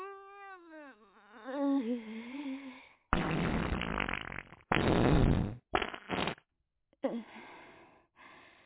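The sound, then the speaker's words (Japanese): A long squeaky, wavering fart is followed by several loud, raspy fart blasts in quick succession, with brief pauses between them, let out in a car during a drive. “あのさ、悪いんだけど、あと一発おならしていい？”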